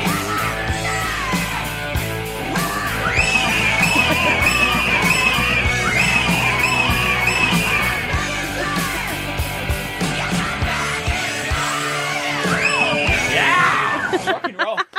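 Loud, dense hard rock music plays throughout, with shrill screaming and yelling layered over the pounding drums and guitars, stopping abruptly near the end.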